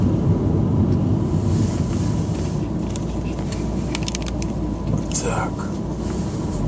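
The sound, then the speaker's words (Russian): Steady low road rumble and engine drone from inside a moving car changing lanes onto a freeway, loud and continuous throughout, with faint higher clicks and a brief whooshing rise near the end. “Вибрация с автомобиля передается.”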